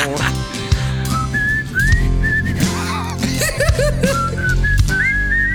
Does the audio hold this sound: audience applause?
no